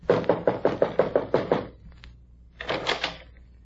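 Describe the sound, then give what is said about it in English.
Rapid, evenly spaced knocking on a door, about eight firm raps, then a brief pause and another quick burst of knocks. No voices are heard. “Why don't you try knocking again?”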